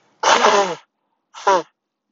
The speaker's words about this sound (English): And I'm sorry, my nose is getting stuffy. And I don't know how to cut and edit and everything, so you may want to mute this. I'm giving you plenty of a warning. I'm about to blow my nose.